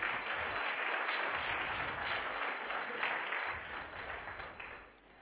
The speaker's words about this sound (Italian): un applauso per lui.